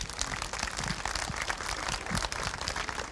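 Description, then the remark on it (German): A festival crowd applauds the participants who contribute to the festival, many hands clapping in a dense, crackling patter that stays fairly even in loudness for about three seconds, with no voices on top. “Wir haben, ja, die haben auch einen Applaus verdient.”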